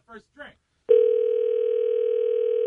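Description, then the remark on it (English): A voice makes two short sounds, then a loud, steady electronic ringback tone of an outgoing phone call starts and holds without a break; the call goes unanswered. “He won't pick up the phone today.”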